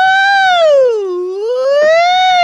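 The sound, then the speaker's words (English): A single, loud voice imitates an ambulance siren, wailing down in pitch and sweeping back up again in one continuous whoop lasting a couple of seconds. “You know, people think that I drive an ambulance too because whenever I cruise down the street, all the men be going, woo!”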